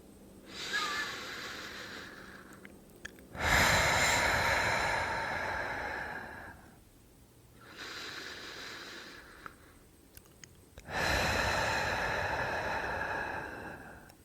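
Slow, deep breaths in a guided relaxation: two full cycles, each a softer airy inhale on a count of two followed by a longer, louder rushing exhale on a count of four, with brief pauses between and no talking.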